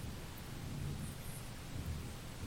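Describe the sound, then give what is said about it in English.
A low, steady rumble of thunder rolls beneath a constant hiss of falling rain, the whole scene sustained and even throughout, with no voices present. “I like the way that it smells when the rain starts to fall.”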